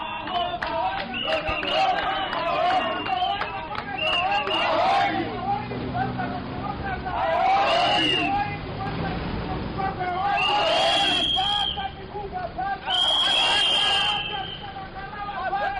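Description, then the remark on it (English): Close to 100 youths march from town house to the offices of the Zimbabwe Electoral Commission in the capital, chanting slogans and shouting together in a dense, steady roar, while shrill whistle blasts cut through several times, especially toward the second half. “Close to 100 youths marched from townhouse to the offices of the Zimbabwe Electoral Commission, chanting slogans and blowing whistles.”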